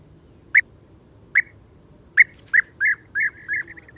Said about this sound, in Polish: Żołna należy do najrzadszych, ale przy tym najpiękniejszych polskich ptaków.